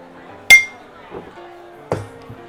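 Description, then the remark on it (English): Drinks clink together in a toast: a bright, ringing clink followed a moment later by a duller second knock, with faint murmuring voices in the background. “Cheers. Cheers. Cheers.”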